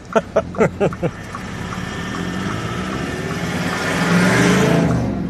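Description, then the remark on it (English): A Dongfeng Box electric car pulls away and accelerates, a smooth rising motor whine over growing road and wind noise; a few short vocal sounds come at the very start. “I don't think it's quite as quick as your car, but it's, but it is electric.”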